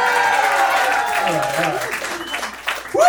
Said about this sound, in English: Come on, give him a round of applause, everybody.